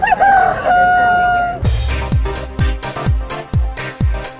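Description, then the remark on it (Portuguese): A rooster crows loudly, one long wavering call lasting over a second, then a punchy, regular drum beat kicks in with heavy thumps and bright hits. “Dentro do Você Online, fala foca e canta galo.”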